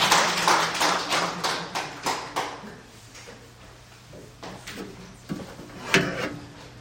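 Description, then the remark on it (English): A group applauds with brisk hand claps that are loud and dense at first, then thin out into scattered individual claps as the applause dies away. No one speaks. “Yeah, give him a hand clap.”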